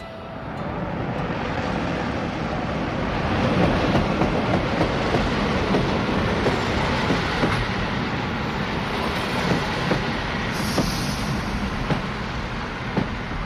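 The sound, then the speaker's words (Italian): A train travels from Berlin Central Station toward Hamburg on an early July morning, rolling steadily along the rails: a continuous loud rumble and roar with faint rhythmic clicks and clacks of the wheels over track joints, with no voices. “Parto in treno da Berlino Centrale, che non è certo una stazioncina di provincia, anzi, è uno degli hub ferroviari più grandi d'Europa.”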